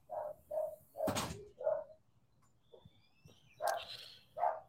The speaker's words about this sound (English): Sorry, the dogs are barking. Let me tell you something about two dogs.